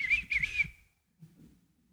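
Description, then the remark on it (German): A person whistles a brief two-part wavering tune lasting under a second, fairly loud over a low rumble, followed by near silence with faint low murmuring. “Wir geben vielleicht vor, keine Angst zu haben, aber manche pfeifen wie Kinder im Wald, um sich im Dunkeln Mut zu machen.”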